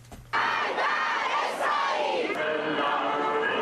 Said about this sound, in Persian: هزاران ایرانی امروز با به آتش کشیدن بیرق ایالات متحده و سر دادن شعارهای ضد آمریکایی از 36 سالگرد اشغال سفارت ایالات متحده در تهران تجلیل کردند.